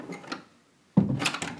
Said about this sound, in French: L'escalier qui grince. Une autre porte qui s'ouvre sur la cuisine.